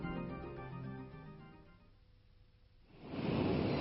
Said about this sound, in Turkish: Arkadaşlar, hadi gelin hep birlikte deniz kıyısında küçük bir gezintiye çıkalım. Neyse ki deniz fazla dalgalı değil. Ama sabah biraz dalga vardı. Biliyorsunuz, dalgalar kıyıya vurduklarında kumsaldaki taşları ve kum tanelerini yerinden oynatırlar.